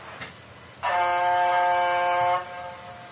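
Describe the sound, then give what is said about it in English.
A single loud, steady train horn blast lasting about a second and a half, with a rich, buzzing harmonic tone that holds one pitch before cutting off abruptly. No one speaks. “I love trains. I don't know how the sound turns on.”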